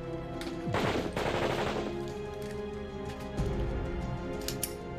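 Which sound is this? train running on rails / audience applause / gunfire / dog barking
gunfire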